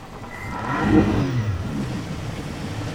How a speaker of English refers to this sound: The truck pulls back into the water and drops Pound off as he sounds the motor.